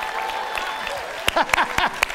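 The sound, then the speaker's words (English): An audience applauds in a steady, dense patter of clapping as the baby boomer generation (born 1946 to 1964) is called on to cheer, with a few sharp claps and high whooping cheers rising over it near the end. “Y'all might need to cheer a little louder.”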